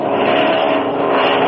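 A steady, loud drone of an airplane engine passing overhead, continuous and unbroken for the whole moment, with no voices over it.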